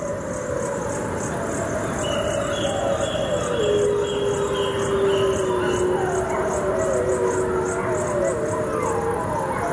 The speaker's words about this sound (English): Remarkably, the irradiated wolves appear to have developed protective mutations that increase their odds of surviving cancer. And hear the sound of the gray wolf of Chernobyl.